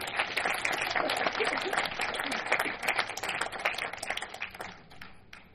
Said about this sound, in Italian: un applauso, grazie.